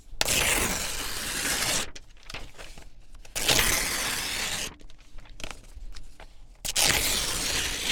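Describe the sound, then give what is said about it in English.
A piece of paper with a coffee stain is torn in three long, loud rips, each lasting over a second, with softer crinkling and rustling between them and no voices, during a demonstration of twisting paper into thread. “I tore paper.”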